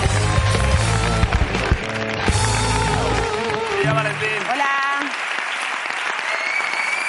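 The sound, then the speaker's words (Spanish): An audience claps and cheers steadily over upbeat music as world champion Lidia Valentín is introduced, the dense clatter of applause filling the whole stretch while a brassy melody plays, the low bass dropping out near the end. “Quiero pedir un aplauso para Lidia Valentín, en la presentación.”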